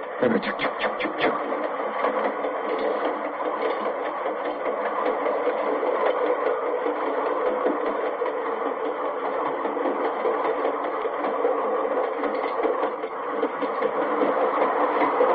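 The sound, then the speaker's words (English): A freight train rolls past a grade crossing, a steady, fairly loud rumble and rhythmic clatter of wheels that holds constant for the whole stretch, with no one speaking. “This is the sound of a train passing a grade crossing.”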